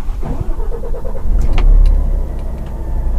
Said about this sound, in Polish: Skoncentrujmy się na silnikach samochodów ciężarowych zasilanych bądź CNG, bądź LNG. Czy jest różnica, jeśli chodzi chociażby o kwestię głośności? Posłuchajcie Państwo, jak właśnie zapala Scania na gaz skroplony.